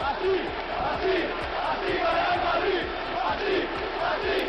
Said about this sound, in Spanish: Si eres futbolero, te suena. Es el mítico "Así gana el Madrid" que cantan los aficionados del equipo blanco cuando ganan y también los aficionados de sus rivales cuando una actuación arbitral les perjudica.